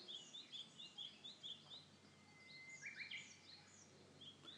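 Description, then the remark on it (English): Recorded birdsong plays over the PA system of a Japanese onsen inn in the morning at breakfast time: a bird repeats short, bright chirps in a quick, steady rhythm, then breaks into a brief trill, all over a constant soft background wash. “But it's Japanese in the sense that what you're listening to is a recording of birdsong, and in this onsen, this inn in which we're staying, as you come down for breakfast in the morning, you can hear birdsong being piped through the PA”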